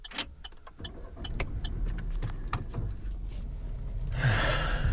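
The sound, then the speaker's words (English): Thuds, bumps and rustles as bags and luggage are loaded into a car, with a low engine hum underneath and a brief hissing burst near the end. “That was the sound of me loading in all of our stuff, because we have so much stuff.”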